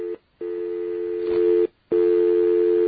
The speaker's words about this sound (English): And we're going to get ourselves a dial tone here. Oh, yeah, the stupid pulsing dial tone again.